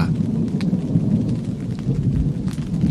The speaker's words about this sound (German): Gut. Mehr Donner. Mit Gewitter und Regen und Wind. Schön im Zelt zu sitzen.